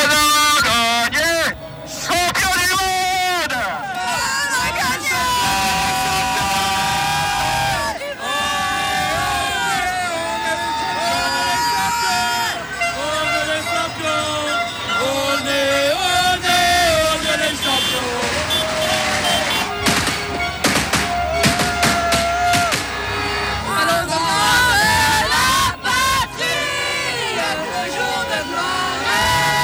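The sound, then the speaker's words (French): A large crowd in Pontarlier, France, celebrates France's 4-2 World Cup final win over Croatia at the final whistle, loudly and continuously, with cheering, shouting and chanting voices merging into a dense roar, punctuated by sharp bursts and rising yells throughout. “À l'heure du coup de sifflet final, tout un pays s'est retrouvé en liesse.”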